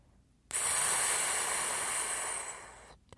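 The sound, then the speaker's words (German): A balloon slowly loses air: a steady, soft hiss of escaping air starts abruptly and holds for about two and a half seconds, fading slightly before cutting off. “Sie hören ein sanftes Pfft und sehen, dass der Ballon Luft verliert. Ganz langsam, aber gleichmäßig.”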